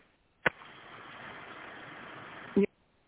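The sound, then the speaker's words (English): A car engine starts with a sharp click and settles into a steady, even idle for about two seconds, closing with a brief louder thump; no one speaks. “excuse me, I'm starting my car.”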